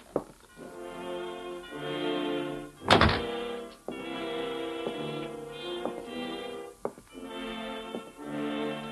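A door shuts with a single heavy thunk partway through, while sustained, harmonically rich tones swell and fade around it with a few soft knocks.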